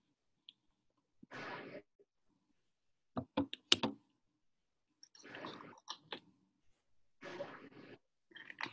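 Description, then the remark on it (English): A woman munching on food: soft, crunchy bursts and a few sharp clicks come in irregular spurts with quiet gaps between, fairly faint, with no talking. “I bet she's munching on something.”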